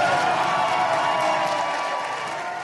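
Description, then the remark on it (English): Democrats in a crowd burst into sustained applause with some cheering during a political speech in Wisconsin, after an announcement of withdrawing from a lawsuit over coverage for pre-existing conditions; a dense, steady wash of clapping holds at an even, loud level for a few seconds before easing slightly. “So you heard a big applause line there.”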